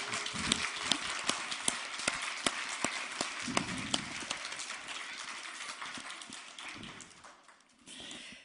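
An audience claps steadily to celebrate a person's birthday, a dense wash of hand claps with sharper individual slaps standing out. The applause holds for several seconds, then thins and fades near the end.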